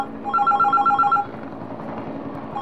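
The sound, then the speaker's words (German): A telephone rings as a call to ANSA goes through: a rapid warbling electronic trill lasting about a second, a quiet pause, then the next ring just beginning. Clear, with no one talking. “Ecco, chiamiamo l'ANSA.”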